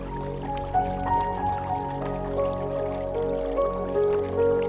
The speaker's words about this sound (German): Die Sonne scheint angenehm warm und du nimmst das Rauschen eines nahegelegenen Baches wahr.